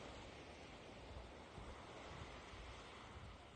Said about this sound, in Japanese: ということで、私が、海で、波の上に手をかざし、スマホをかざして、撮りました。波の音をバックにやりたいと思います。